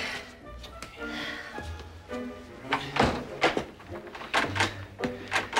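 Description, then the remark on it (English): Repeated thumps and rattles as someone tugs and pushes at a stuck door that refuses to open, the bangs growing stronger and more insistent toward the end. “The door won't open.”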